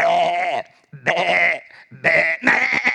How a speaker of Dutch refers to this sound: Ik zie David daar lopen met om hem heen de schapen en de geiten.